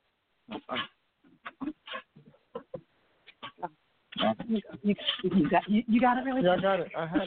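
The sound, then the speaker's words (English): A big Labradoodle dog whimpers and whines in a series of short, broken bursts before people start talking loudly over the last few seconds. “Yeah, he's a Labradoodle.”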